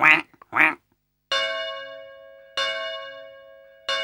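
A duck quacks twice in quick succession, loud and close, followed by three bright, ringing chime tones that each sustain and slowly fade, with no talking.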